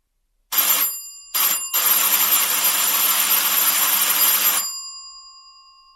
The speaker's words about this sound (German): Das Klingeln an der Haustür ließ ihn aus seinen Gedanken aufschrecken.